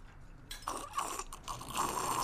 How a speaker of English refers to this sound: I guess you said rum and Cokes. I must have heard Jack and Coke. And I was like, all right, get him a double here. take a sip of that drink. Tell us what you think about it.